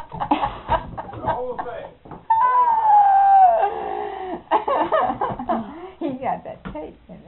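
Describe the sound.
A dog lets out a single drawn-out howl lasting about a second, its pitch sliding downward, fairly loud, with people talking before and after it.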